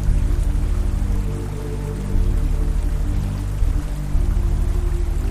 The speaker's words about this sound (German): Und für kleine rhythmische Variationen hörst du jetzt noch so ein paar Tropfen.